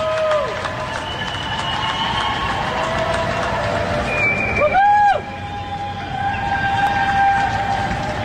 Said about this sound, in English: And it's just people just roaring in the streets, and you can just hear them giving them praises. So these are the high rises of Atlanta. Oh, yeah. Medical personnel changing their changing shifts.